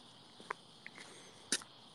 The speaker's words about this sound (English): The cricket noises in the background. Yeah, they're real. They're real. I'm just taking a walk.